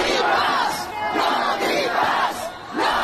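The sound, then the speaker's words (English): A large crowd of protesters on the streets of Turin, Italy, shouts the slogan "no green pass" in unison against the green pass, the loud massed voices rising and falling in repeated chant phrases, with a dense roar of many people filling the gaps between them. “So they're shouting, no green pass, no green pass.”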